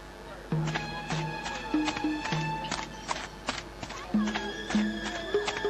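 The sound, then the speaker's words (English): The hooves of a donkey carrying a miller and his young son clip-clop in a steady, moderately loud walking rhythm on the way to market, a dozen or so hollow knocks, over a light tonal musical backing. “so both of them hopped onto the donkey and started riding together.”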